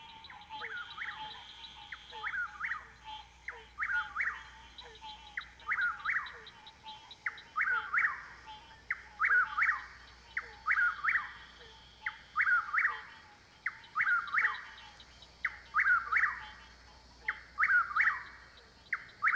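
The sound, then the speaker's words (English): A whippoorwill calls its three-part whistled song over and over in a steady, rapid rhythm, about sixteen times in a row, clear and fairly loud against a quiet background with no talking. “That's the whippoorwill.”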